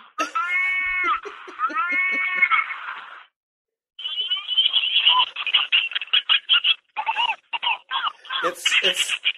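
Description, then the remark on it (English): A tinny, warbling electronic moo from a cow-shaped novelty cookie jar, two drawn-out wavering calls that sound like a sick cat, followed by several seconds of choppy, rapid bursts of sound. “It sounds like a sick cat. Moo! Moo! Moo!”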